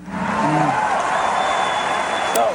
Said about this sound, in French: Cupertino, le 6 mai 1998, Steve Jobs présente cette nouvelle création pour Apple devant une foule de passionnés en délire.